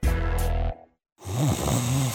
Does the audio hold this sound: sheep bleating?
no